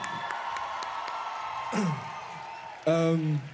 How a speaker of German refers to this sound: Ein großer Applaus, bitte.